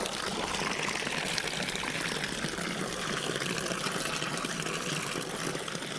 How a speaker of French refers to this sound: Ah, voici la fontaine Napoléon III. T'as vu ça ? Écoute ces quatre jets d'eau. On dirait qu'elles chantent.